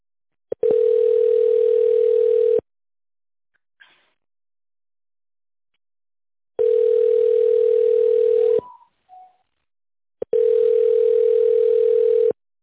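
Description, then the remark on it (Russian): Three long, steady telephone signal tones on the phone line of the Novatek Electro company, signalling the caller to dial an extension or wait for an operator, each lasting about two seconds and separated by silence, with a few faint short clicks and blips in the gaps. No one speaks. “После сигнала наберите добавочный номер абонента или дождитесь ответа оператора.”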